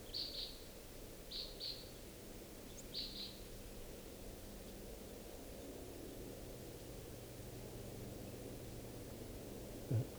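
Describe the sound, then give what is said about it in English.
Crossbill type 5 calls from a bird perched above a camp: three quick bursts of short, high, doubled chip notes in the first few seconds, then quiet over a steady low rushing background noise. “Recording, I think I hear type 5 calls.”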